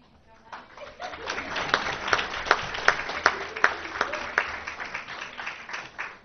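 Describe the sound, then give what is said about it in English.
An audience applauds steadily for a school staff member at a Board of Education meeting, with many sharp claps blending into a dense, crackling roar that holds at a fairly even level for several seconds before tapering off. “So we give her a round of applause as well.”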